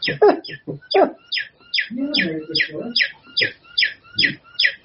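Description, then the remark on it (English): A bird calls with a steady series of about a dozen sharp, high chirps, evenly spaced and fairly loud, while people talk quietly underneath. “When we say something pithy, the bird pops out.”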